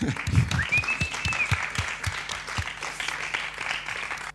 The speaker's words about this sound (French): Merci au public aussi d'être venu ce soir. Vous pouvez vous applaudir vous-même.